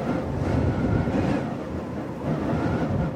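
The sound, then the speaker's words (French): Steady, roaring hot wind blowing over sand dunes in villages of the Bintagungu district buffets the microphone, a dense low rumble with slight swells in strength, continuous with no voices. “Le vent chaud et le sable ont pris le dessus dans plusieurs villages du cercle de Bintagungu.”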